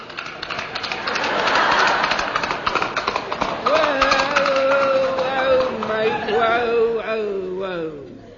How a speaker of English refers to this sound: Great Jupiter, mate. Is that thing a flea? No, it's an horse, mate. A horse? Yeah.